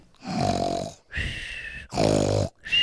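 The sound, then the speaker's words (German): A bear snoring loudly, four deep rumbling snores in a steady in-and-out rhythm with short pauses between, some throaty and growling, with no talking. “Jetzt schnarcht nur noch der Bär im Eck.”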